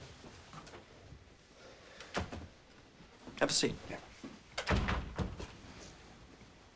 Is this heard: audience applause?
no